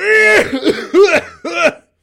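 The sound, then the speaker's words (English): A voice imitates a smoker's hacking cough: three loud, rough, throaty barks in quick succession, each rising then falling in pitch, with no other talking. “He's always sick, pretty much, because he smokes like a chimney.”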